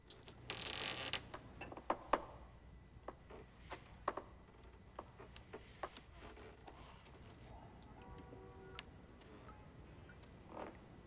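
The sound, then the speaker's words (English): A man quietly lowers a sash window, which slides slowly down with soft, drawn-out wooden creaks and scattered clicks, quiet, with no voices. “The man quietly lets the sash window down and pulls the dagger back through the hole in the bathroom wall.”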